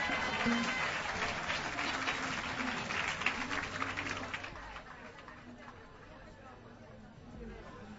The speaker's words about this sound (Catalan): Un aplaudiment per ell, sisplau.